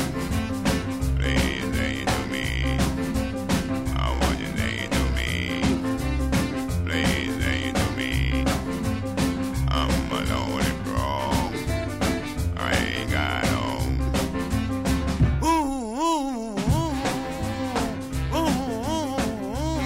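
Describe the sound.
A singer drops into a deep, croaking frog-like voice over a steady, full band with piano and drums, the gravelly imitation rising out of the music near the end.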